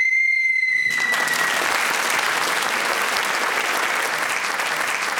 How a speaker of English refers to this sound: speaking as the whistle went means she gets that all-important point, and that's, of course, what we're here for.